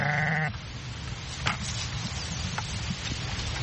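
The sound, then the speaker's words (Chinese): A single sheep on a farm bleats at the very start, a short wavering, nasal cry lasting about half a second, followed by steady outdoor hiss and a few soft clicks and knocks. “我最大的挑战，天哪，我的羊最近老是跑出羊圈，这6-7天来他们逃跑过许多次，让人抓狂。”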